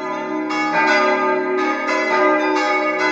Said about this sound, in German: Die Totenglocke der evangelischen Kirchenburg aus Agneteln läutet, um ein verstorbenes Gemeindeglied der reformierten Kirche zu verabschieden.